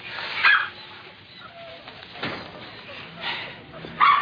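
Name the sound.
puppies yipping and whimpering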